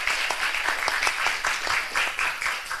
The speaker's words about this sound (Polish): Wielkie brawa.